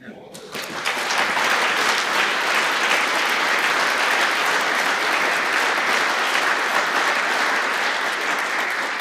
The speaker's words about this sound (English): And that applause was definitely for Frederick, I think, or for Christine for organizing this event, because you thanked a lot of people.